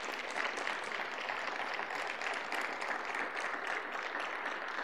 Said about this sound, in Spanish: Un aplauso a Dios por la vida de ellos.